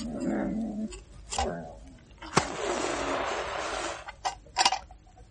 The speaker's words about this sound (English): walked across the room, shook its ears, and pushed against a chair close by his bed. I didn't know you had a dog. What sort is it? A setter?